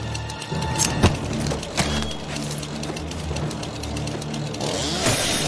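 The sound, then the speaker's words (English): A chainsaw runs loudly and steadily throughout, its motor revving up and down, with a few sharp whooshing swipes and impacts as it is swung at a person's head. No one speaks. “As he swipes his chainsaw at her head, she ducks and rolls past him, seizes the knife, and slashes his thigh.”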